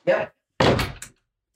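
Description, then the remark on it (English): A door being opened as a dog named Mo goes out: a short thump, a brief pause, then a longer, louder rattling clatter that fades out within about a second. “And right out the door she went without any problem.”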